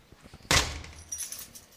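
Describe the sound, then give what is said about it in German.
A sharp metallic clatter of keys jangling at a door lock as someone searches for the right key to lock up, followed by softer scattered jingles and small clicks tapering off over a couple of seconds, with no talking. “Jetzt muss ich versuchen, noch abzuschließen.”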